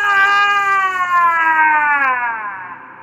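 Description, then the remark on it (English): A person lets out one long, loud, sustained scream, its pitch holding high and then sliding slowly downward before it trails off. “Am I allowed to just scream into the void right now?”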